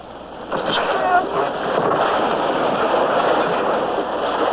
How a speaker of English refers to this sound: The wave came. And in we went through a welter of spray and foam.